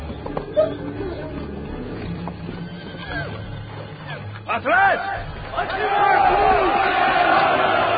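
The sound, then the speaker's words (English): Several cavalry horses, assembled with their riders in a circle, whinny and neigh with rising, arching calls, loudest toward the end, while hooves clop and shuffle underneath and a crowd murmurs in the background. “They're all assembled in kind of a school circle on their horses.”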